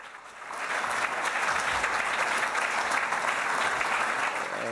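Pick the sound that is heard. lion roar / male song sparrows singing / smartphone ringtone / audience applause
audience applause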